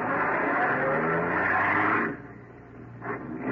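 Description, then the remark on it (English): A car engine roars loudly, a steady driving drone that drops off briefly, then surges again as the car speeds up, pursuing another car on an empty road late at night. “I started after him.”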